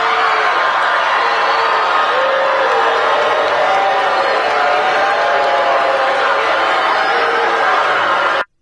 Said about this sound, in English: CNN said that for the first 60 seconds or so, she was kind of booed.